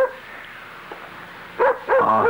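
A dog barks a few times in quick, yelping bursts near the end, loud and close, after a quiet stretch with a faint earlier yip.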